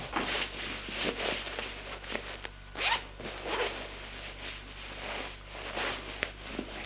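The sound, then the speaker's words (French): A clothing zipper being undone as a woman undresses, several rasping pulls in a row with short pauses between them, over a faint steady low hum and no talking. “Elle se déshabille.”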